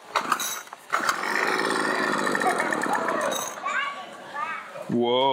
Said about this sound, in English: I only can get this to run very rarely. And so if you're a small engine person, you just want to take this and fix it and make it your own, go for it. But we're going to give it a few pumps here.